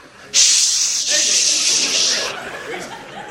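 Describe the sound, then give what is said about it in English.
A loud aerosol can sprays into the air, hissing in one steady burst for about two seconds, then cuts off and leaves faint background murmuring and light laughter. “You think I'm going to quit spraying aerosol in the air because I'm worried about what's going to happen in 2070?”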